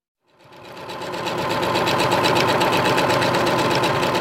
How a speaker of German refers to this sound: Auch das hört man in der Deichmann-Bibliothek in Oslo, das Rattern von Nähmaschinen. Eine Frau sitzt an langen weißen Stoffbahnen.